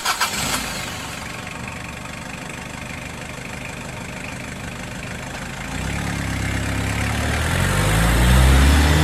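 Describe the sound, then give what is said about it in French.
A car engine cranks and catches with a sharp burst, settles into a steady idle, then revs up and pulls away as the driver sets off toward an abbey with the windows down, the rumble growing louder and deeper toward the end. “Alors, j'ai pris ma voiture, direction l'abbaye, et j'ai roulé avec les fenêtres baissées.”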